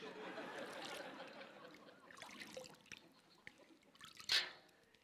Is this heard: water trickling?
yes